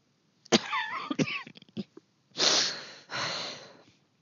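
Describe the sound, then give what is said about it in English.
A choking coughing fit after gulping down a strong-smelling drink: several harsh, sputtering coughs with strained wheezy squeaks, followed by two long, raspy gasping breaths as it subsides. “I don't know how to do any of this, Leia confessed, when the coughing finally subsided.”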